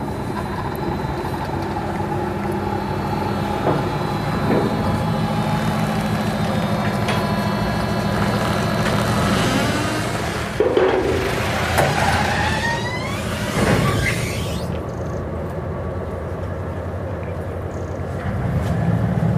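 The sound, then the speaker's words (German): A small ferry's engine rumbles steadily as it pulls away to cross back to the other side, a crossing of roughly 100 to 200 meters, a continuous low drone with a few brief clanks and surges partway through, and no one speaking. “Fährt Bodo wieder auf die andere Seite. Da fährt er wieder ab.”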